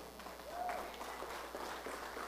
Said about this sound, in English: Give Lord a hand clap.